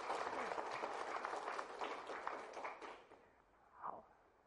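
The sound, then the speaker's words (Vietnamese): Applause from an audience at a health talk on cancer prevention, a dense patter of many hands clapping at steady volume for about three seconds before thinning out and stopping, with a brief faint voice near the end. “Có, xin hãy cho một tràng pháo tay cổ vũ.”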